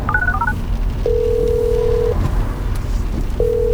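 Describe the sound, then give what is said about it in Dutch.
A Mercedes car's voice assistant places a phone call to the speaker's brother: a rapid string of short, high electronic dialing beeps gives way to a long, steady ringback tone that stops and then starts again, all over a constant low rumble with no talking. “Hey, Mercedes, bel mijn broer.”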